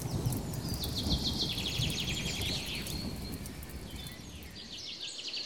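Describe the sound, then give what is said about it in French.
Forest ambience: a steady, low rustling background layered with repeated high bird chirps and trills, continuous throughout with no voices. “Et les sons de la forêt.”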